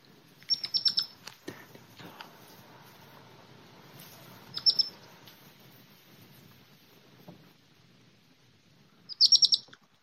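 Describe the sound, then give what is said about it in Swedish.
A baby hedgehog chirps to its mother in three short bursts of shrill, rapid peeps, spaced several seconds apart over a quiet, faintly rustling background with no talking. “Alltså det lät ju när en av ungarna kvittrade till sin mamma.”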